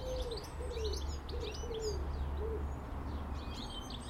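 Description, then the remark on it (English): A pigeon coos in a steady series of soft, low, rounded calls, while other birds chirp and twitter higher up against a constant outdoor rumble. “The first time we ever went, we were walking in the morning to that sound of pigeon.”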